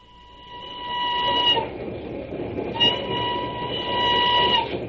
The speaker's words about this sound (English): it's just this stuffy old train.